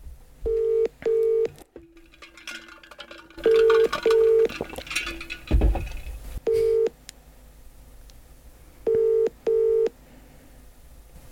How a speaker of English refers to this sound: Let me ring him. I don't know if he'll answer. Let's see.